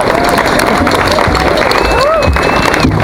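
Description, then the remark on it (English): An audience applauds a Halifax Peace Coalition veteran introduced to speak about women in Afghanistan, in a dense, steady wash of clapping that holds loud for about three seconds, with a few thin whistles or cheers rising briefly above it. “Round of applause”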